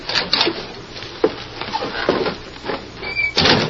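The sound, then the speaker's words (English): The wooden door of a little shack on the edge of the town of Sand Springs creaks and scrapes as it's pushed open, with a clunk partway through and a high squeak near the end, with no talking. “Go on, open the door,”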